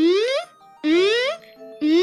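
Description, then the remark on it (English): A robotic, distressed beacon signal sent in from New Zealand, with delay and other effects added: three bright, buzzy tones, each sweeping upward in pitch, repeating about once a second, with fainter delayed echoes trailing in the gaps between them. “And I added some delay and some other effects to that to make it sound a little more robotic and distressed”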